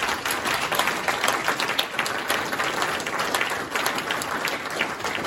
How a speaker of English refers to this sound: I can see by the smiles on your faces, you're really, really delighted. So give him a round of applause, please.